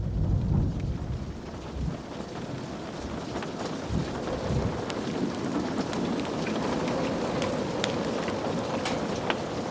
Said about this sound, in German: Die Blitze, die den Himmel erhellten, der Donner, der die Luft zum Vibrieren brachte, und der Regen, der gegen die Mauern des Schlosses prasselte, waren für ihn eine Quelle der Inspiration.